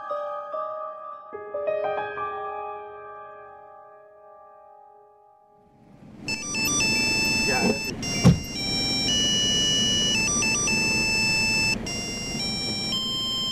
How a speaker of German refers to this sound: SMS-Alarm im Provinzkloster.